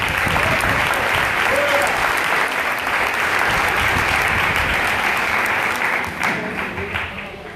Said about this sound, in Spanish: Entonces, eso es importante, que usted pueda aplaudir con más fuerza al Señor.